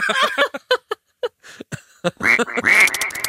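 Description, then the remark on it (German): A voice imitates the squeaking of latex rubbing together as a man walks, with squeaky, duck-like quacks in a quick uneven series of short bursts, ending in a few louder, nasal squawks, fairly loud with nothing else behind them. “Weißt du, wie ich es mir vorstelle, dass es die ganze Zeit auch so Quietschgeräusche macht, wenn er geht, weil das Latex so aneinander reibt?”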